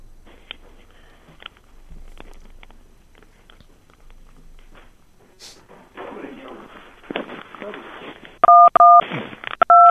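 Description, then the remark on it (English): A few loud, steady touch-tone beeps from a phone keypad sound in quick succession at the end, following several seconds of muffled rustling and handling noise. “I heard touch tones.”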